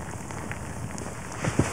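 Maggots crackling in an anechoic chamber: a dense, steady fizz of tiny pops and clicks like puffed rice in milk, with two slightly louder snaps near the end. No voices.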